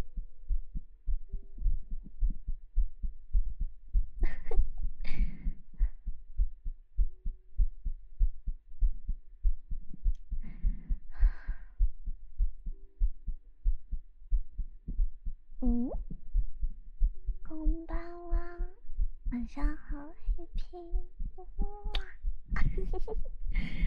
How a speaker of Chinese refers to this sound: 你的心跳变快是什么东西啊？